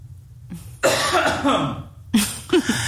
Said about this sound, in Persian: من اولا یه چیزی بگم اینجا، ببخشید من سرفه کنم.